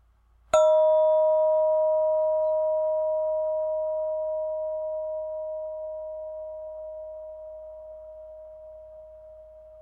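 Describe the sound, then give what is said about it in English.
A single bell is struck once, sharp at first, then rings out as a long, pure, sustained tone that slowly fades over several seconds, heard alone with no voices. “Notice how you respond as you focus on the bell, and notice when the bell stops ringing, when you no longer hear the sound anymore.”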